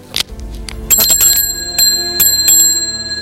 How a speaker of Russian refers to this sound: На туалетном столике, на консольном столике, лекарства из кремлевской аптеки, колокольчик, при помощи которого он вызывал к себе